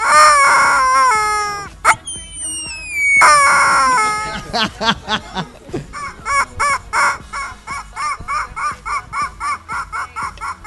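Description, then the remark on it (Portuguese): A chicken lets out two long, loud, wavering crowing calls, then settles into a steady run of rhythmic clucks that continue to the end. “Eu vou tem ceder o meu lugar de entrevistado pra galinha.”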